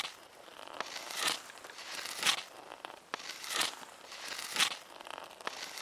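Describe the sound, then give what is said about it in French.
Dry, brittle cracking and crunching as a squirrel-bird husks a pine cone, with repeated sharp snaps and crinkly rustling bursts at an uneven pace, and no voices. “Écoutez bien, ceci est le bruit d'un écureuil-oiseau en train de décortiquer une pomme de pin.”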